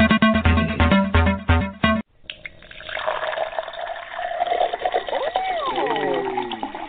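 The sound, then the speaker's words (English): Wine is poured into a cup in a steady, splashing stream until the cup is full, its gurgling tone rising in pitch as the cup fills. It follows a brief burst of rhythmic sound that cuts off abruptly. “Listen, I'm about to pour me some wine.”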